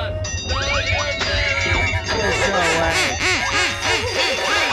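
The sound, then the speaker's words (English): A flurry of loud, nasal duck quacks repeats rapidly and overlaps throughout, some rising and falling in pitch, over a steady low hum and a few sustained tones. “I'm telling you, that duck rock is going to be what all the kids are swaying to. Quack, quack.”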